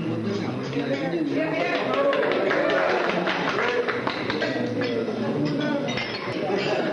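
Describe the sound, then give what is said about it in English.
Glasses clink repeatedly in quick, scattered bursts beneath a steady murmur of many people talking at once, during a toast at a council gathering honoring a delegation from Vietnam. “Would you raise your glass, and he is going to give us the translation for cheers in Vietnamese.”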